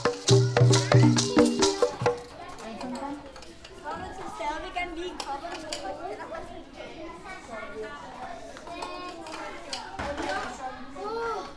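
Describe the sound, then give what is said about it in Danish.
A crowd of young first- and second-grade schoolchildren at a school in Sydhavnen, lining up for lunch, chattering all at once, many high voices overlapping in a steady, lively babble, after a brief loud tonal burst at the very start. “Det du hører her, det er lyden af en flok første og anden klasser ude på skolen i Sydhavnen.”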